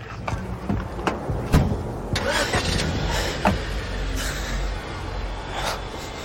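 A car engine cranks with several sharp clicks and thumps, then catches into a steady, rumbling idle that stays fairly loud, with no talking.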